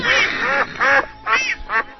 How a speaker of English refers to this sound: Was she really standing in front of ducks being... Yeah, it was well, like... Well, ducks on the lake behind her. Yeah, oh, okay. All these giant birds.